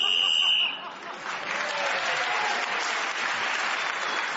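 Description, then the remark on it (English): A shrill whistle blast lasting about half a second, blown to mark time up while a panel game player is speaking, immediately followed by a crowd breaking into steady, sustained applause that fills the rest of the moment. “Clement Freud was then speaking as the whistle went and he's moved forward”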